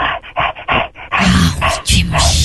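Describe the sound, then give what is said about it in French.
A person barks and snarls like an angry dog shut in a car, a quick run of about five sharp yaps followed by a harsher, sustained growling bark, loud. “Tu es mon chien. Aboie. Tu es un chien enragé dans une voiture.”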